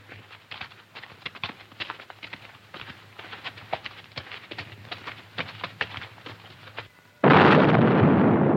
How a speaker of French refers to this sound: Que Claparède ouvre le feu à mitraille de ses 18 canons ! Dans une minute ! Oui, Majesté !